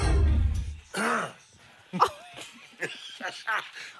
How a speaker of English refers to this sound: Did you just cough before we came on? Can we just hear that, please? This is how it sounded as it went to air.